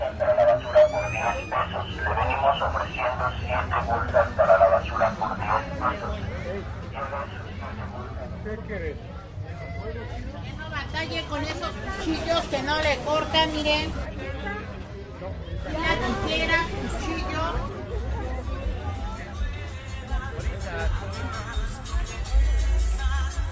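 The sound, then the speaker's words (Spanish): Busy open-air street market (tianguis) ambience in San Felipe de Jesús, with a steady babble of many voices, overlapping calls and chatter, and a low rumble of traffic underneath, dense and continuous throughout. “Eufonía del Tianguis, San Felipe de Jesús.”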